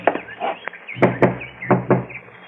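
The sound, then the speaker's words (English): Sharp, solid knocks rap on a door, coming in quick pairs after a softer tap or two, with a faint low background hum underneath and no talking. “get the door.”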